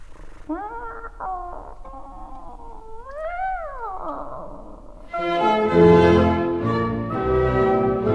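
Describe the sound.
A singer in an opera duet imitates a cat with a few sliding, drawn-out sung meows over soft accompaniment, then a fuller, louder ensemble of voices and orchestra swells in for the rest.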